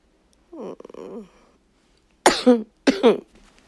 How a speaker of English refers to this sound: You think my coughing is sexy?